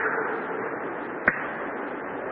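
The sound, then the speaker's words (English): A voice imitates bloody sheepskin slapping against Adam's leg as he goes down the path through the Garden of Eden: a steady breathy swishing hiss with one sharp slap partway through, and no words spoken. “Bloody sheepskin slapping on Adam's leg as he went down.”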